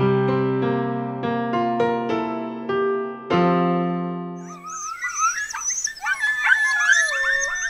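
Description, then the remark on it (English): A pack of red wolves howls in chorus, with overlapping wavering, rising howls and yips in the second half, after a few seconds of sustained musical chords. “That howling chorus you're hearing there is a pack of red wolves, and sadly, it's a sound you soon may not be able to hear in America ever again.”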